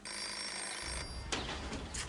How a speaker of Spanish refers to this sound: ¿No hay nadie en esta casa que conteste al teléfono?